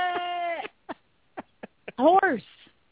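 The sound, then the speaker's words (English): A person imitates a horse's neigh with a drawn-out whinnying tone, a few short breathy bursts, then a wavering, rising-and-falling whinny, fairly loud. “Horse.”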